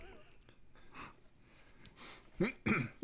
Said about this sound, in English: Clear my throat.